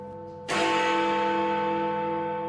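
The Big Ben clock bell strikes for 10 o'clock, a loud, deep clang that rings on with a long, humming decay, following the fading tail of a previous chime. No one speaks.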